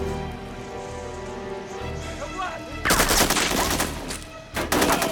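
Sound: gunshot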